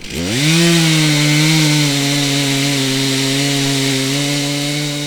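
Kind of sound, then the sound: tool, chainsaw cutting wood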